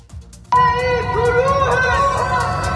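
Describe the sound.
In Tehran, people shouting from their homes: after a brief near-silence, many voices erupt at once into loud, sustained shouting, a chorus calling out slogans together, including "Death to Mojtaba Khamenei", in a steady, chant-like roar that holds to the end.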